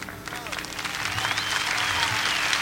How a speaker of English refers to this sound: You're not hearing fake crickets, for one thing, and you're hearing a real audience response, and you're kind of hearing a little bit of movement on stage. To me, that's the real Woodstock.